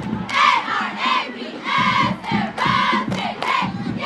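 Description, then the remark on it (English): A crowd at a Coachella Valley High School football game on a Friday night screams and yells in loud, high-pitched bursts, surging in several waves with brief dips between them and no clear speech. “Every time you see an Arab, they scream.”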